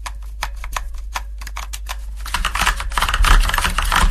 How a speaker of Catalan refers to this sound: Sí, tenim un altre que és teclejar l'ordinador.